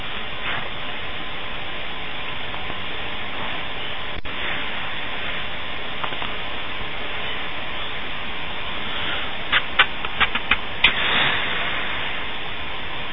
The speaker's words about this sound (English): No. Just a hissing noise. Yeah, well, that's part of the course. That's the fan today.